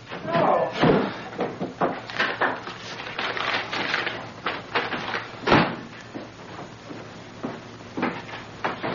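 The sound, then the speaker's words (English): A screen door bangs shut with a sharp slap, and another hard knock follows a few seconds later, amid voices and busy household noise. “Don't leave the screen door open!”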